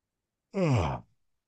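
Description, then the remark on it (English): A single yawn, a short voiced exhale that slides downward in pitch and trails off within about half a second, with no talking around it. “One more yawn.”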